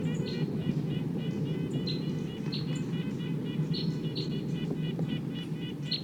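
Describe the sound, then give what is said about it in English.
A wild bird up above calls in a steady series of short, high chirps and whistles, repeating throughout over a constant low rumble of background noise. “That's wild bird up there.”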